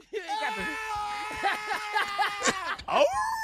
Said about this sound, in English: It's a dog, Pat.